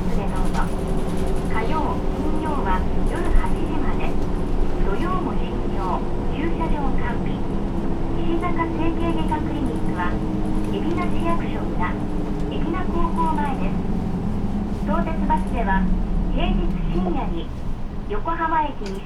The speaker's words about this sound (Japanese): はい、中央1丁目でございます。バスが止まるまでそのままでお待ちください。